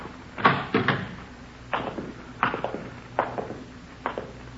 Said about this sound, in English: Now, this is his room. You want to open the door?